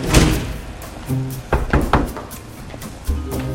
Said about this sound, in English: Karen shuts the door.